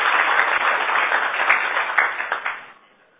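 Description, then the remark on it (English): A small audience claps together for Team 4 after a session, a dense, steady burst of applause that holds for a couple of seconds, then thins out and fades to quiet. “Let's give them a round of applause, Team 4.”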